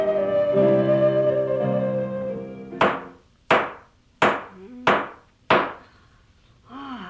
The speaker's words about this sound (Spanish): Tranquila, la señora, llaman a la puerta. Pero, Dios mío, ¿a quién se le ocurre a estas horas?